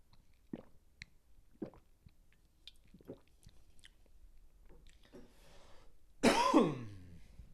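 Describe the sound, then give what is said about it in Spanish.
Someone drinking water: a few soft, wet gulping swallows spaced about a second apart, followed by a louder, rough throat-clearing cough with a short voiced exhale at the end. “Un momento, voy a beber agua.”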